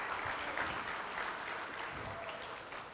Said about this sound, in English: And for those of you who work children's ministry, either you teach or you help during first or second hour, will the rest of you give a round of applause to those people? Really do appreciate you.